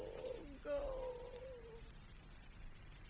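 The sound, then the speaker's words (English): A cat lets out one long, drawn-out meow that rises and then trails off over about a second, followed by a stretch of low background noise with no further calls. “Somebody just please feed the cat.”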